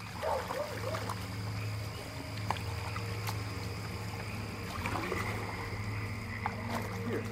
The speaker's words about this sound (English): The soundtrack to his childhood on tribal land was oars paddling on the Williamson River, the bark of his dog, and at night, the sounds of his grandma praying.